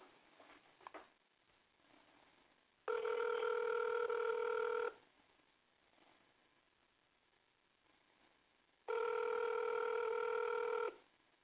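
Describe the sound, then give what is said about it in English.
Two long electronic ringback tones, each about two seconds with steady harmonic buzz, separated by several seconds of quiet line hiss, heard through a phone line as an outgoing call rings. “It's ringing.”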